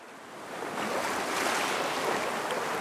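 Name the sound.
ocean waves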